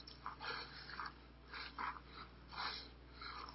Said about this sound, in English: And we're just basically, you hear that breathing? That's the way it was the whole way up.